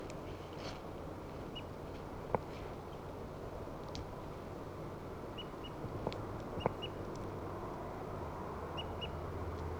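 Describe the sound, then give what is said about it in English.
Caged birds give a few short, sharp calls and faint high peeps, scattered irregularly over a steady low rumbling background noise, with no one speaking. “There's one of the birds.”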